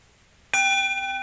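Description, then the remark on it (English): A bell is struck once after a brief quiet moment, ringing out loud and clear with a bright, sustained metallic tone that keeps resonating to the end. “This bell comes from where?”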